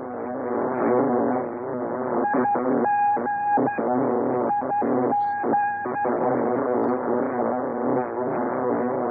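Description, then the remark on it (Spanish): A dense, steady radio jamming buzz from a defense signal, a powerful transmitter on the same frequencies as invading transmissions that blocks reception, drones on throughout. Its harsh bee-like timbre is thick with wavering harmonics, broken briefly by sharp tonal bars in the middle. Loud, continuous, with no voices. “Estos sonidos, en forma de abejas, bloquean la transmisión y no permiten o dificultan la escucha.”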